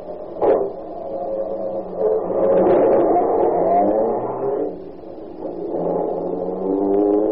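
The engine of a new car, just off the boat and tuned the way they do in France, turns over and revs up, its droning pitch rising and falling in several surges. The sound is fairly loud and steady throughout, with no talking.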